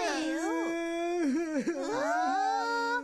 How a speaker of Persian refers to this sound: چی شده؟ چرا گریه میکنی؟ گریه نکن.